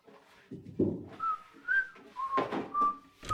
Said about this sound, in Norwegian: Hun hadde akkurat sørget for at Jonas og Mia-Maria fikk høre hvor flink hun var til å plystre selv.